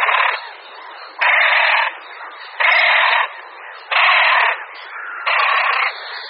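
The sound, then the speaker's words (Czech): A courting male great crested grebe calls in a steady series of five loud, harsh, rasping bursts, each about half a second long, separated by quieter grating churrs. “Slyšíme hlas stokajícího samce Potápky Roháše.”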